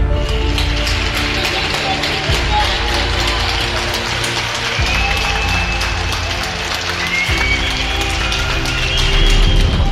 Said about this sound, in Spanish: Han sido muchos los días en los que nos hemos asomado al balcón para aplaudir a los sanitarios. Es la forma que teníamos de reconocer su labor. Aplausos que congregaban a los ciudadanos de toda España en calles y plazas